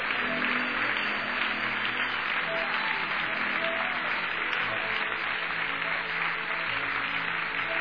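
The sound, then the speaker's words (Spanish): An audience claps above their heads in a dense, steady wash of applause that holds at an even, loud level for the full several seconds, with no clear voices rising above it. “Aplauda sobre su cabeza.”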